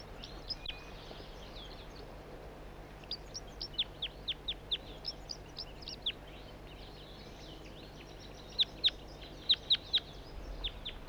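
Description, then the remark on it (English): A juvenile bird, not a red male and apparently not banded, gives a run of short, sharp, high-pitched chirps, some in quick clusters, over a steady low background hum, with no talking. “It's recording the same bird. It's not a red male. A juvenile.”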